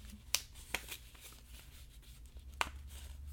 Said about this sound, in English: All right, so now we're going to take the left flap, the left loose flap on the left side of the paper, fold it over to the right.